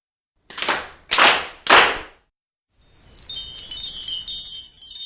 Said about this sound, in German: Lasst uns auf mein Kommando alle zusammen dreimal in die Hände klatschen. Alle bereit?